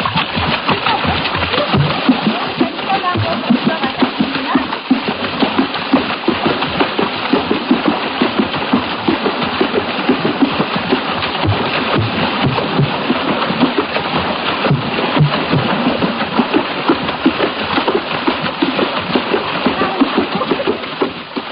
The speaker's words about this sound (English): If some of that sound seemed to resemble splashing water, that's exactly what it was. This was African water music, not to be confused with a suite of the same name by George Frederick Handel.